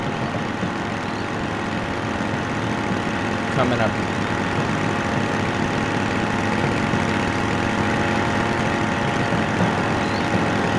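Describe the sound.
Car engines of two cars in a game level hum and idle in a steady, continuous drone that fills the whole stretch, with a brief spoken phrase over it.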